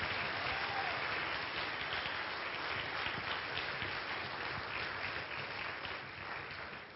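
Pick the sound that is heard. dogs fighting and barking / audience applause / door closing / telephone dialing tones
audience applause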